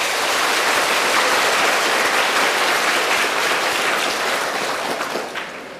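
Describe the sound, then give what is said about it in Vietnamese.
A crowd claps steadily for about six seconds, a dense, loud patter of many hands that fades slightly at the end, with no voices over it. “Các bạn hãy cho một tràng vỗ tay để khen mình đi.”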